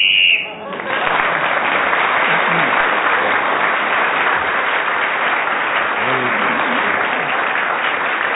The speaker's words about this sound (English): So Amy McDonald kept going until the whistle went